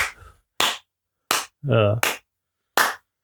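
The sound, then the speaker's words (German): A handful of slow, sharp hand claps, isolated rather than a crowd's applause, spaced unevenly with silence between them and a brief vocal sound in the middle. “Warte, Applaus.”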